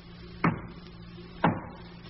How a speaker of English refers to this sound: Knock. That's Ricky's.